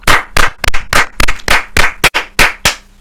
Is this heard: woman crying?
no